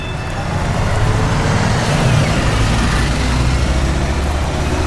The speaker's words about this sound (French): Alors, le bus qui vient de passer. À l'arrêt de bus, je le vois. Le bus qui amène les collégiens vers les collèges d'Albi.